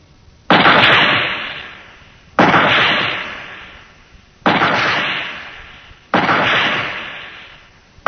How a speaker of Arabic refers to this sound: خمس طلقات من مدفع العبودية.